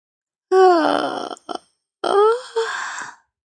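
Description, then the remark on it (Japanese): Two drawn-out, voiced yawns of a person stretching while sitting in a café, each sliding downward in pitch, the second ending in a sighing stretch groan, with a brief breathy catch between them and no other sounds. “あくびをして少し伸びをする。”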